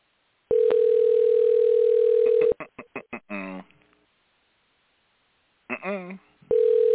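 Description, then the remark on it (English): An outgoing call to Mar-a-Lago rings: a steady, mid-pitched ringback tone buzzes for about two seconds, falls silent through a gap with a few brief voice sounds, then starts again. “Don't they pick up the phone in Mar-a-Lago?”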